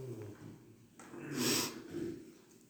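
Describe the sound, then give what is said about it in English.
A single forceful nasal sniff swells up and fades in the middle, fairly quiet overall, with soft breathing around it and no talking. “I'm sniffling like crazy.”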